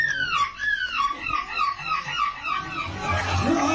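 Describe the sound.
A competitor at a seagull impression contest imitates a hungry gull, the kind that dive-bombs sandwiches, with a string of high, wavering squawks and cries that rise and fall, loud and continuous throughout, with a low rumble of crowd noise underneath.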